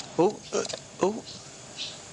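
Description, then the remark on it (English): Birds in a shed chirp: three short, harmonic chirps in quick succession, each dipping slightly in pitch, followed by a couple of faint, thin high tweets against quiet background noise. “I don't know if you can hear them tweeting away.”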